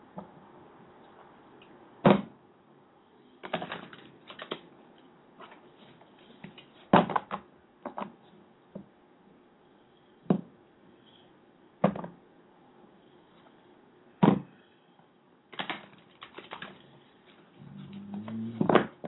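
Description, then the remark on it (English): An Angel Tarot card deck being shuffled, with irregular crisp slaps and brief riffling bursts separated by short pauses, and no one talking. “Let's start shuffling the deck and say, hey, why don't you tell me when to stop shuffling, and then we'll go from there.”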